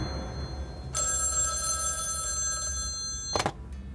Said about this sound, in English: Then, the phone rings again.